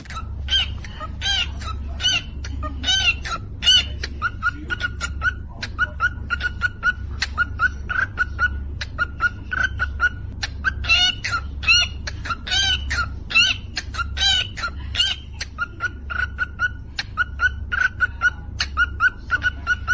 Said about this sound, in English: A cockatiel beatboxing. Oh, God. Here you go. This is a cockatiel. You know, they're not a parrot. They're halfway between a parakeet and a parrot. They're not in between. No. But it, you can train it to do things like this.